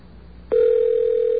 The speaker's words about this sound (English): Okay, this line should ring any second now.